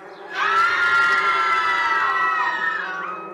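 A dense crowd of villagers in the street shouts and screams together as swarming bees attack them, loud and sustained for a few seconds, with high-pitched cries blending into one frantic roar before tapering slightly at the end.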